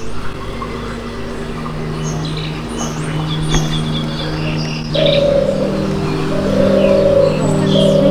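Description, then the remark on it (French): Songs of endangered birds played in the electroacoustic installation Birds of Silence: scattered high chirps and short calls rise over a steady low humming drone, growing somewhat fuller and louder in the second half. “Birds of Silence propose l'écoute du chant de ces oiseaux aujourd'hui en voie d'extinction.”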